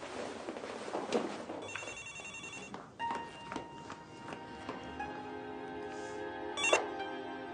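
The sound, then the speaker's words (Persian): A telephone rings with repeated bright electronic trills, clear, over a faint background with a few soft knocks and shuffles; no one speaks. “مامان تلفن رو میشه جواب بدین؟”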